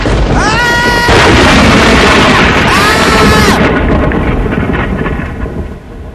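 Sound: lightning strike thunder crash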